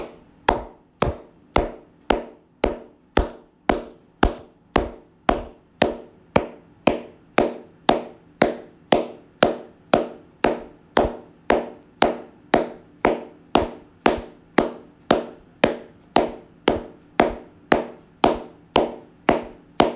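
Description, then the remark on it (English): A long, steady run of sharp hand claps, evenly spaced at a brisk tempo of roughly two per second, each crisp and equally loud, with no talking. An instructor claps hands, heard over a laptop, to pace a breathing exercise in which each clap cues a belly snap. “Look forward, follow along, see, maybe you'll be able to hear the clap on my laptop, and begin.”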